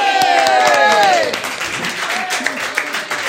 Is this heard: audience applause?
yes